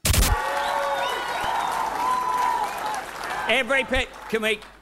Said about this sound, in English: He wasn't very happy about the crowd cheering during his acceptance speech.